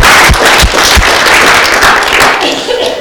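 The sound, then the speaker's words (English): An audience claps steadily, a dense wash of many hands with a few sharper low thumps early on, loud throughout and tapering slightly toward the end. “You know, so let's just give those people a clap, because it is hard, you know?”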